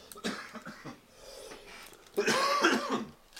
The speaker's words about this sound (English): Whew, got to cough a little bit on that. Let's take a look at the terpene profile on this OMG THC tangerine shatter here.